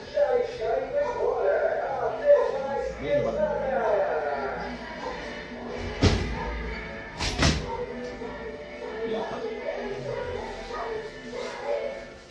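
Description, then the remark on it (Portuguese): A window is shut to keep out the noise of a churros vendor car, with a brief scrape and a sharp knock, then a louder double clack a second later, all over a steady murmur of voices. “Deixa eu só fechar a janela aqui, porque senão o carro do churros vai falar mais alto que eu.”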